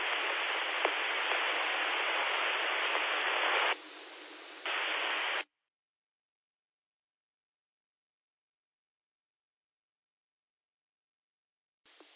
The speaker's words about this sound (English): In that last station, there's no audio. We've just got, you're just throwing out a carrier, and it's got a little white noise on it. So check your audio. Make sure your audio is working.